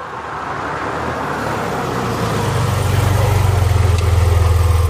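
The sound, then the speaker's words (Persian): A car engine idles with a steady low rumble that grows slightly louder and more pulsing toward the end, against a constant background hum. “تا صدای ماشین رو شنیدم روپوش روسری رو پوشیدم از پله ها سرازیر شدم.”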